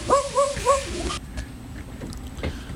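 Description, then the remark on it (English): A female dog gives three quick, high yelping barks in a row, then a softer whine, over a steady low rumbling background with no talking. “Bailey Sayona, she's not even a millennial dog.”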